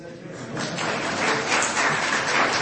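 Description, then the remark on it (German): An audience claps as a dense, steady patter that builds in the first half-second and then holds, with a murmur of voices underneath. “Für was wollt ihr klatschen?”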